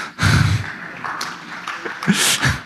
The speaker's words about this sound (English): Yeah, that's the amount of applause that's due. That's perfect.